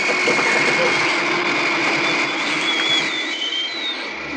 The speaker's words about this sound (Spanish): está ya ante los controles y activa los motores del jet. avanzan por la pista. El formidable avión arranca como cohete.